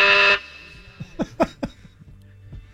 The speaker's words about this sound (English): That's the bell.